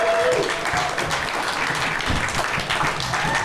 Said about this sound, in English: Ladies and gentlemen, clap it up